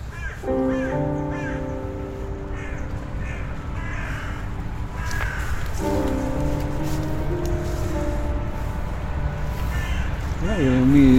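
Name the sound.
caged birds calling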